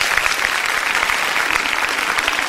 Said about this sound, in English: Applause is appropriate.